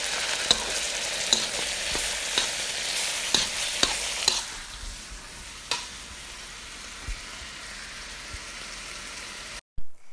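A steady, hissing sizzle of chicken frying on high heat, crackling loudly for the first few seconds, then settling into a softer hiss broken by sharp clicks and pops of spatters.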